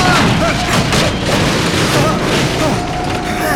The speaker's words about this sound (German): Als die beiden an der Boxengasse entlang rasten, gab Maddox Vollgas und berührte mit seinem Kart das Heck von Bobs Wagen. Dies brachte Bob ins Schleudern und er landete schließlich zwischen den aufgestapelten Reifen.